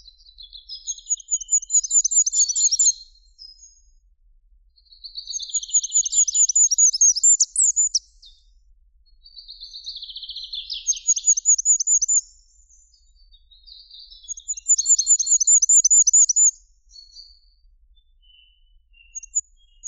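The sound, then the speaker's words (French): Four bursts of very high, thin goldcrest song, each a few seconds of rapidly repeated identical modulated syllables ending in a quick flourish, separated by short pauses, with faint sharp, very high sit-sit-sit contact calls between. “Le roitelet huppé a un cri de contact constitué de sit-sit-sit très aigu, très incisif, souvent répété.”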